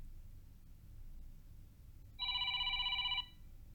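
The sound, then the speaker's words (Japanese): A single burst of telephone ringing, a bright electronic trill lasting about a second, heard over a quiet low hum with no one speaking, as a call is placed to a company after a job interview. “ファンさんは面接を受けた会社に電話をかけました。”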